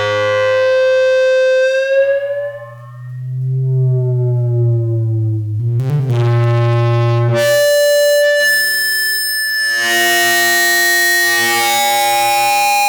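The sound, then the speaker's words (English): Karplus-Strong synthesized plucked-string tones run through a reverb algorithm, with long ringing harmonic notes that slowly bend in pitch, then a brighter, denser burst of layered tones in the second half. No one speaks. “This one is a car plus strong, run through a reverb algorithm.”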